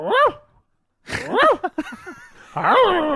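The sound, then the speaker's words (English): A man's voice mimics a big Rottweiler's whimper, with a few rising, whiny 'ooh' cries in short bursts separated by pauses, fairly loud. “Do you reckon the big Rottweiler sat there and was like, ooh.”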